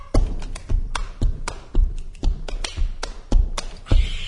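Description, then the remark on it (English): Steady rhythmic body percussion by a folk group: about ten crisp slaps and taps with deep thumps underneath, evenly spaced, played alone with no voices. “The group mixes world folk, Appalachian, and Eastern European styles with cello, banjo, accordion, ukulele, and body percussion, a rhythmic site of musical movement.”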